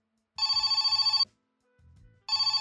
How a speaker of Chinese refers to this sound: 电话声响了起来，我浑身一颤，拖着脚步走到电话旁接了起来。